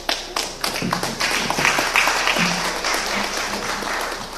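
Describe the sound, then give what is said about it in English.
A workshop audience applauds the presenters steadily, many hands clapping at once in a dense, sustained patter that stays fairly loud throughout, with no voices standing out. “If you could give them all a round of applause again.”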